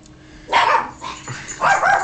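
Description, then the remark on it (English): A dog named Ginger barks at someone behind a door in short bursts, two or three loud, sharp yaps with brief pauses between, heard on its own with no talking. “She's barking at someone behind the door.”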